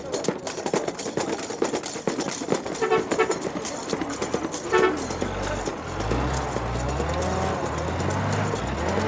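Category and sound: vehicle, bus horn honking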